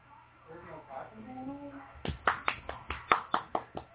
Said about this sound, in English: He wants clapping.